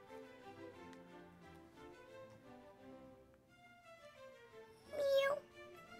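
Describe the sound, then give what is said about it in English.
A young voice imitates a kitten, giving one high, wavering meow near the end, louder than the soft voiced murmuring before it. The sound is clear. “Meow, a cat? You must be my kitten, meow.”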